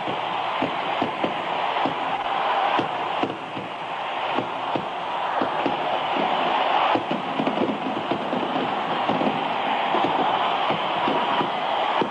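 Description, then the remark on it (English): A huge baseball stadium crowd roars and cheers Henry Aaron's record-breaking 715th home run as fireworks go off, a dense, steady wall of noise that stays loud throughout, dotted with sharp bursts like claps or bangs. “Crowd is cheering Henry Aaron, the home run king of all time”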